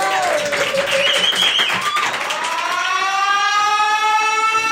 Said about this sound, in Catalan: Doncs res, fort aplaudiment per Kimberly Kate, la salvadora dels gossos. Bravo!